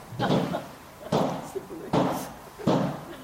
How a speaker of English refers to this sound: Sounds like the balloons are all going off.